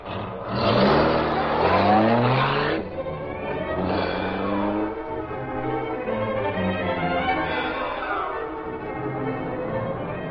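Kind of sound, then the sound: vehicle, car accelerating away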